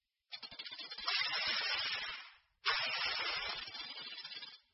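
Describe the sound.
A snake hisses twice, each a long, steady, breathy hiss lasting about two seconds, separated by a brief pause. Fairly loud, with no talking.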